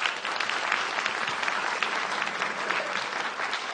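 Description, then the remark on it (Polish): Steady, dense applause from a large audience in a hall at a film festival event as a team of film critics is introduced, a continuous crackle of many hands clapping at an even loudness throughout, with no voices standing out. “Radość na sali, jak słychać, ogromna.”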